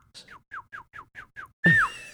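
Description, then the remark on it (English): A person whistles a rapid string of six short, evenly spaced chirps, each sliding downward in pitch, imitating a Bigfoot's chirp, then ends on a louder, harsher descending whistle. “I'm just whistling.”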